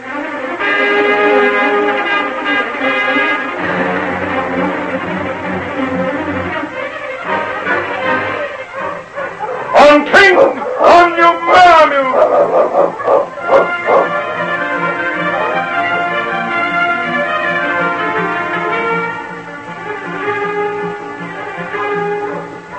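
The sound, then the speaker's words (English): A team of sled dogs howls in long, wavering cries, breaking into a burst of sharp, overlapping barks midway before the howling resumes; loud, with no talking. “I'll see if she'll take some more of this broth while I harness the dogs.”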